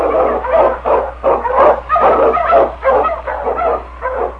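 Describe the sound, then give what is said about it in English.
A chorus of excited sled dogs, with Eskimo lead dog King of The Challenge of the Yukon, barks and yips continuously and loudly, overlapping in quick bursts, with a steady low hum running underneath throughout. “Wonder Dog King, swiftest and strongest of Eskimo lead dogs, blazes a trail through storm and snow for Sergeant Preston as he meets the Challenge of the Yukon.”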